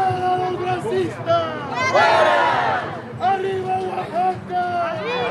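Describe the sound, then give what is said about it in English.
A crowd of more than 1,000 marchers in Los Angeles, mostly Oaxacan immigrants and their LA-born children and grandchildren, shouts "Out with the racists" together in overlapping, rising voices, a loud and continuous roar of chanting and yelling with surges of intensity, protesting racist comments by elected representatives. “Out with the racists, they shouted.”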